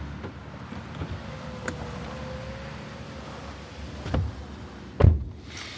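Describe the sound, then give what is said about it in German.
Someone settles into a car with soft rustling and shifting, followed by a solid car door slam near the end. No one speaks. “Mensch, steigen Sie besser ein. Da fällt doch auf, wenn Sie am Wagen rumstehen.”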